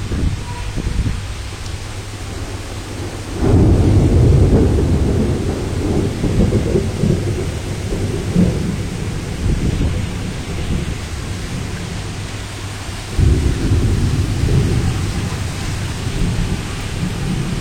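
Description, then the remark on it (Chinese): Steady, hissing rain falls throughout, broken by two deep rolls of thunder: a long rumble that swells early and fades slowly, then another heavy roll near the end. “对，附近真的下雨，出门还是带把伞吧。”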